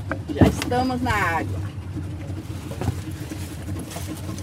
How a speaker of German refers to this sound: als er sich ins Motorboot hieft, um einen Nebenarm des Amazonas hinaufzuschippern.